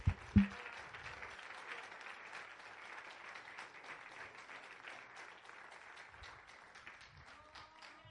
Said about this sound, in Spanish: Démele un aplauso al Rey de Reyes, Señor de Señores.